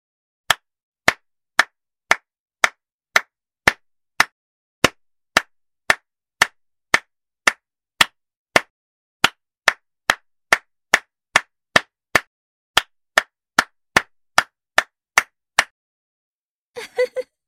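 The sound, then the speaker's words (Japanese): Steady hand claps repeat about twice a second, sharp and close, for roughly fifteen seconds, followed by a brief pause and a quick cluster of claps at the end. No voices. “こうやって、こうやって、手を叩かれてると、なんも考えらんなくなるなぁ。”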